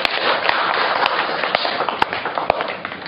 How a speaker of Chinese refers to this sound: 这是一个神的荣耀，是神的荣耀，所以我们鼓掌献给我们的神。